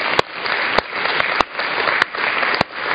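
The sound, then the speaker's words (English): A standing church audience claps hands in unison to a steady beat, sharp synchronized claps landing about every half second over a dense wash of scattered clapping and room noise. “Stand up and help me clap your hands.”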